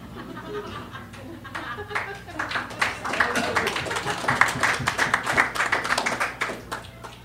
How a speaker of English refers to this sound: It's great when you applaud, I get to have a sip of beer.